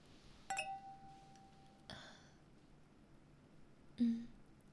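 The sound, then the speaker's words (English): Two drinking glasses clink together once in a date-night toast, a bright chime that rings on for over a second, followed by a couple of softer knocks. “Here's your drink. Cheers to date night.”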